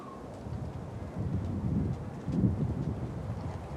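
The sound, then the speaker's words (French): Steady wind blowing with a low, rumbling roar that swells twice in strong gusts, fairly loud, with faint high hiss above and no voices. “Et ça, c'est le vent.”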